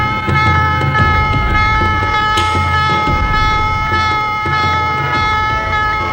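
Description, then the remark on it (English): A ship's general quarters alarm blares continuously aboard an American destroyer in the Gulf of Tonkin shortly after noon, a loud, steady, buzzing tone rich in harmonics, with a rumbling, pulsing low undertone throughout. “Shortly after noon, the calm of the day is broken as General Porter sounds.”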